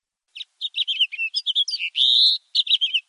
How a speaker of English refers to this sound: Does anyone know that one? That sounds like a house finch there. That was absolutely right. That's a house finch.